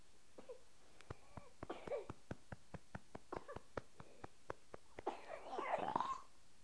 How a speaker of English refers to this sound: Oh my. Are you all right? That was quite a little old burp and cough there. Got any more in there? That was quite a burp and cough. That sounded like a big old frog in your throat.